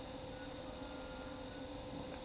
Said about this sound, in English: Train.